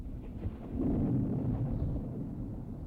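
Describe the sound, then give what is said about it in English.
A low, deep rumble of distant thunder swells after a moment, holds steady for about a second, then slowly eases off without fully fading. No voices. “The sound of distant thunder.”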